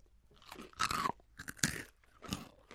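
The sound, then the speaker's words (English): Moon Cheese dried cheese puff snacks, little puff balls, crunch crisply in a few loud, irregular bursts of chewing, with brief pauses between bites and no talking. “point out to our listeners out there, the moon cheese is little puff balls and doesn't look like a chip at all.”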